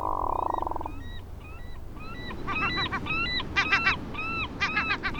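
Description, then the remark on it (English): A crowd of ducks and about 100 coots calls across open water, short nasal honks and squawks overlapping in a busy chorus that grows louder and denser, over a steady background wash. “There are about 100 coots there. And then out here are a bunch of ducks, and I think we have shovelers.”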